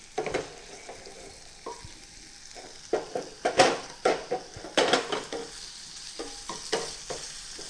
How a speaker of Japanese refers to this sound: 30秒ほど火にかけたらだいたい温まっていますので、ここで鶏肉を入れていきます。全体に混ぜながら鶏肉の表面を焼いていきますね。